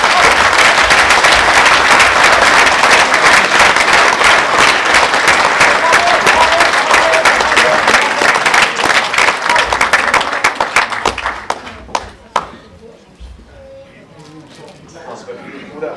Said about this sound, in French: Ça force le respect et ça vaut des applaudissements.